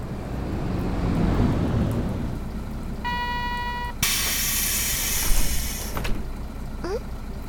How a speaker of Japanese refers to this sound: そのうち雨も上がっちゃうかもね。ようやくお待ちかねのバスが到着したみたいよ。